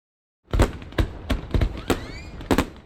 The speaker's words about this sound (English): "Listen, can you hear the fireworks?" asked Philippe.